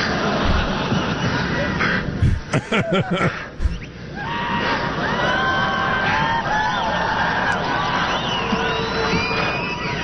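A loud crowd at a software launch screams and whoops throughout, with a burst of sharp yells near the start and rising, wavering whoops carrying over a constant roar of cheering.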